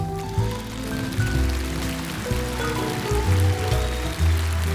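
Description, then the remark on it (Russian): Loud, dense applause from a large crowd, a steady crackling wash of many hands clapping for the whole stretch, with low sustained musical tones humming underneath. “Спасибо вам за ваши красивые цветы, за ваши красивые улыбки, за ваши громкие аплодисменты.”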